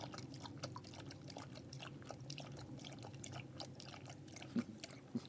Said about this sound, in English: Have your water. Come on, big dog. Contrary dog. It's a hot day. You need water. Come on. That's a good boy.